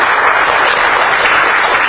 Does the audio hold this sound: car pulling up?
no